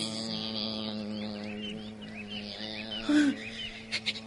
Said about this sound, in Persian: شیر دیگه داشت خوابش می برد. اما یه دفعه صدای وزوز مگسی اومد.